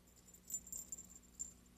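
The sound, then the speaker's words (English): Small bells on the paws of a dog puppet made in Italy jingle faintly in a few light, irregular shakes as the puppet moves, with high tinkling notes that flicker on and off over a quiet background. No one speaks. “And at the end of each paw is a little bell. So there's a sound with the puppet as well as a movement.”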